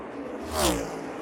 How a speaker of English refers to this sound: Drag race down the front straightaway for second place between Reddick and Truex